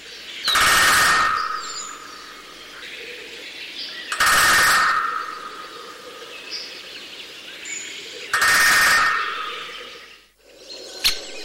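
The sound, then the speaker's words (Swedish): A great spotted woodpecker drums three times, each a short, rapid roll on wood spaced a few seconds apart, loud and clear against quiet forest background with faint birdsong. “En större hackspett är den som är ojämförligt den vanligaste.”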